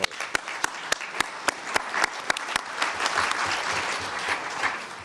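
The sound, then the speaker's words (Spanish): Steady audience applause fills the whole stretch, dense clapping from many hands with a few sharper, louder claps standing out at the start, holding at an even, moderately loud level without any talking, at the close of the ninth session of the UN Permanent Forum on Indigenous Issues, thanking conference staff. “Un aplauso.”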